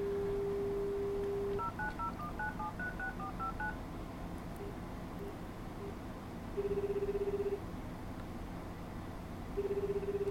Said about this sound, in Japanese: この状態で固定電話からまた電話をかけてみます。音を出します。